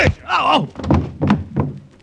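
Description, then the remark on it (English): A few heavy, dull punch thuds land in quick succession, loud, as a lieutenant's fist strikes a man being questioned, with the man's pained groan and grunts mixed in between the blows. “Lieutenant, perhaps another taste of your fist?”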